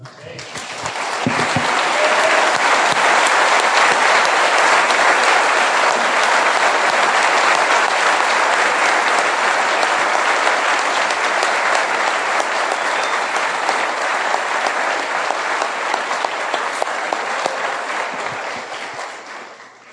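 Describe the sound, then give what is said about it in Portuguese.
An audience at a worship service applauds Jesus steadily for about twenty seconds, a dense, loud wash of clapping that holds even throughout and tapers slightly at the end. “Ei, vamos aplaudi-lo.”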